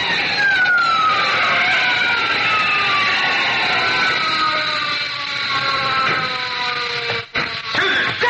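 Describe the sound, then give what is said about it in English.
Car brakes slammed hard before a roadblock: a long, loud tire screech with wavering, falling squeals over a noisy engine roar, cutting off briefly near the end as the car skids to a stop. “Oh, I thought we'd both go through it when I slammed on those brakes.”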